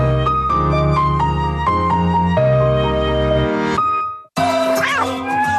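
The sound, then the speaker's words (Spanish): A short musical jingle from an advertisement for the Laika pet store app plays, then after a brief pause a single cat, Michi, meows clearly near the end, rising and falling in pitch. “En Laika encuentras de todo y de todas las marcas para tu gatito.”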